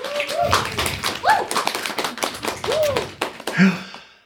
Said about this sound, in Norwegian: Må klappe litt for